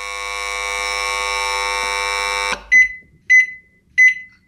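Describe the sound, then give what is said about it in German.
A kitchen appliance such as a microwave or egg cooker sounds a long, steady electronic tone for a couple of seconds, then three short, evenly spaced beeps follow, clear with nothing else in the background; the signal imitates a classic egg-timer bell. “Bei der Mikrowelle, der Eierkocher, das ist im Prinzip nachgebildet der klassischen Glocke oder so einer klassischen Eieruhr eben, die man hatte, die also irgendwo einen Klöppel auf eine kleine Glocke schlug.”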